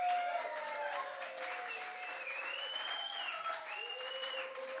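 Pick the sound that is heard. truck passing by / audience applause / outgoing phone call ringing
audience applause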